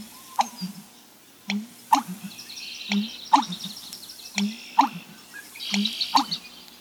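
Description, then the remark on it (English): An American bittern gives a series of deep, gulping booms repeated at a steady rhythm, about five low pulses, while fainter birdsong chatters in the background. “The most bizarre bird call, the American bittern, was one everybody agreed on.”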